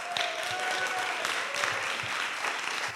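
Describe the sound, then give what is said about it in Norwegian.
Steady audience applause at a church gathering for the leader of the worship team: a dense, even wash of many hands clapping at a constant loudness throughout, with no voices rising above it. “Gi han en applaus.”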